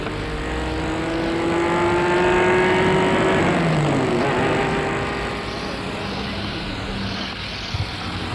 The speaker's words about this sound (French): fait un geste de revoir, et la voiture s'en va.